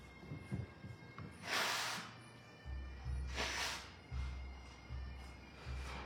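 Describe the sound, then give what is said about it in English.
Two loud, breathy nose blows, each a harsh hissing burst lasting about half a second and separated by a short pause, over a faint low hum with no talking. “Excuse me, I just need to blow my nose.”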